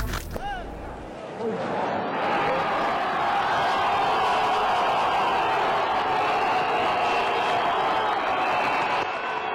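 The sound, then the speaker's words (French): A theatre crowd at the 1988 premiere of Thomas Bernhardt's last play at the Burgtheater in Vienna, Austria, fills the air with a dense, steady murmur of many overlapping voices. After a brief rise at the start, it holds loud and unbroken with no single speaker standing out. “Une foule décrit un son autrichien, ça pourrait faire peur”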